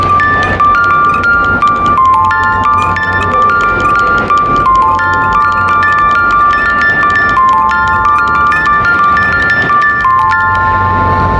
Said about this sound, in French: Là, c'est vraiment sa version boîte de musique que vous venez d'entendre.